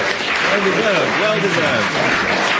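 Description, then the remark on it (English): A studio audience breaks into spontaneous applause for brilliant play at the end of a game of Mornington Crescent, a dense, steady wash of clapping that holds at full strength throughout, with a few voices calling out over it. “The audience recognizing brilliant play when they see it bursts into spontaneous applause.”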